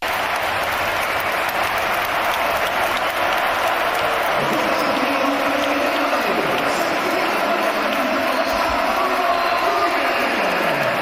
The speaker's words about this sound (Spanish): Así lo han despedido. Esta ha sido la ovación, el público en pie. Para Gonzalo, que hoy ha vivido una tarde mágica con el hat-trick